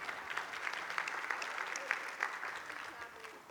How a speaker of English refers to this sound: Thank you so much. Round of applause. Good job.